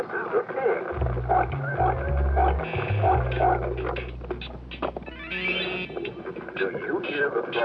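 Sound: frog croaking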